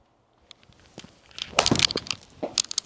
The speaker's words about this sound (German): Und werde jetzt mal diese Papierkugel Pebble Beach-like einlochen.